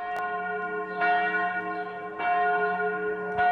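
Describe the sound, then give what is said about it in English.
Church bells at the Church of the Nativity in Bethlehem, West Bank, ring out at Christmas to summon the faithful, in a steady sequence with fresh strikes about every second and a long, humming resonance that lingers between them. No one speaks. “Bells at the Church of the Nativity summon the faithful to celebrate Christmas at the traditional birthplace of Jesus in the West Bank town of Bethlehem.”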